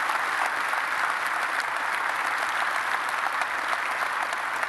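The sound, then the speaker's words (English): A large church audience across its campuses applauds to affirm the young people, a dense wash of hand claps at a constant loud level with no pauses or voices standing out, lasting the full few seconds. “Would you just help me by applause just affirm them again in all of our campuses?”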